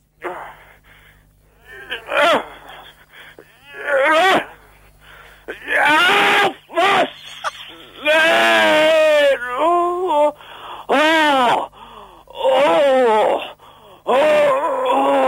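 A man moans and groans loudly in repeated drawn-out bursts, wavering and strained as if in pain, with short breathy pauses between each cry and no speech, as he cuts himself with a sharp knife in a contest judged on how much he groans.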